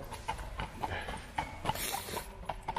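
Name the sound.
horse hooves clip-clopping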